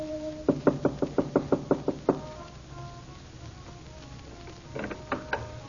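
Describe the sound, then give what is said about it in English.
Rapid knocking on a door: a quick, even run of about ten sharp raps, a pause of a couple of seconds, then a shorter burst of three or four more over a low background hum. “The door is not locked.”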